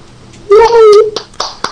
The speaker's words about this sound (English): I'm clapping for myself.